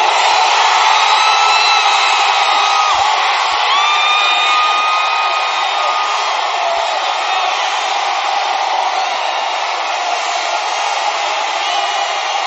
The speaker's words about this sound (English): If your mind is being sparked, let me hear your screaming amen.